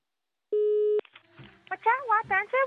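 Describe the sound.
A single steady electronic telephone tone lasting about half a second, clear and fairly loud, cuts off abruptly before a person starts talking over the line, on a call from a radio service to a man in Thailand.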